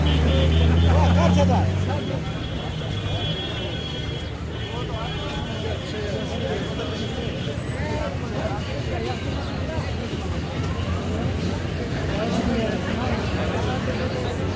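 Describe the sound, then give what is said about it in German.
Dense street traffic of cars, buses, motorcycles and jeeps in Leh, India, rumbles steadily, with engines idling and moving in stop-and-go fashion, a deep bass-heavy hip-hop and pop music beat thudding near the start, and a background babble of voices throughout. “Indien, Hip-Hop und Pop-Gedröhne, Autos, Busse, Motorräder, Jeeps im Stop-and-Go.”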